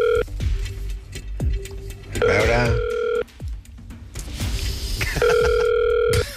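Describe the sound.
A telephone call being placed from the Catalunya Ràdio morning show: brief dialing tones, then two bursts of ringback tone about three seconds apart, with a short spoken remark and light background noise in between.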